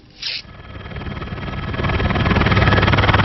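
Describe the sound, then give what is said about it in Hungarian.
A helicopter's rotor thumps in a steady rapid chop under a broad engine roar that swells louder, with a brief whooshing swish near the start. A man made a parachute jump from the helicopter at 650 metres. “650 méter magasból ugrott le egy helikopterből.”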